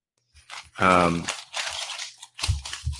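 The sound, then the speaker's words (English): Papers being shuffled, a few crinkly, rustling bursts spread across a few seconds, with a brief voiced sound partway through. “Shuffling some papers over here.”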